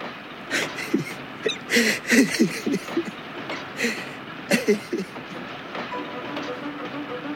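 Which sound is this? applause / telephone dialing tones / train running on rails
train running on rails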